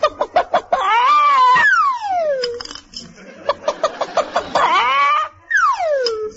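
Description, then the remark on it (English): A voice imitates a hen laying an egg, with bursts of rapid, choppy clucks and long, wavering, falling squawks. The calls are loud and strained, filling the whole stretch. “We've either got to get smaller eggs or bigger hens.”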